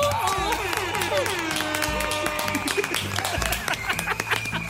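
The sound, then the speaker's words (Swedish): An applause sound effect played in the I Like Radio studio: a crowd claps and cheers in a lively burst, with a bright horn-like toot sounding over the clapping and scattered voices in the mix. “Vi kör en applåd och en liten tuta på det!”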